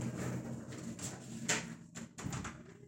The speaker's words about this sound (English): Okay. I'm going to close this door.